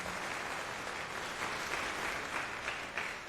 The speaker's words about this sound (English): Give him a warm applause, please.